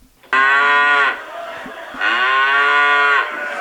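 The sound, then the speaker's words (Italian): Two loud, drawn-out cow moos, each lasting nearly a second, with a short gap between them and a quieter lowing sound in the pause; clear with no talking. “Si comportano come famiglie, stando vicine e muggendo insieme finché, girovagando, non ritrovano la via di casa.”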